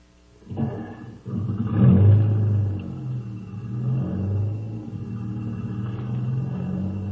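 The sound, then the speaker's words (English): A jeep engine turns over and revs loudly, its low rumble rising and surging as it pulls away, then settling into a steady droning hum as the vehicle drives off. “Get in the jeep. I'll have to step on it if we're going to catch that plane.”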